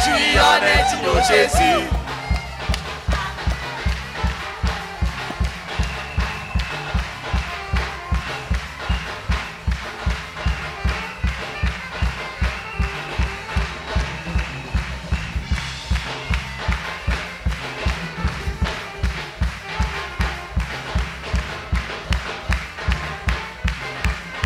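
An audience in worship shouts and cheers joyfully over a steady, driving beat of rhythmic claps and thumps, the loud crowd noise sustained for the whole stretch.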